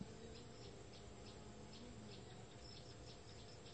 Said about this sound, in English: The bird singing. The bird, is it absolute? Reality? What is actually heard? Is it bird that's heard, or what is actually heard?